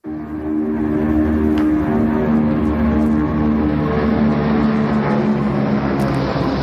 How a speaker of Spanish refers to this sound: Estamos escuchando el sonido de aviones porque en Historiones de la Moda descubrimos, por ejemplo, que muchas prendas nacen por pura necesidad.